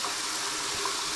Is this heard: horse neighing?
no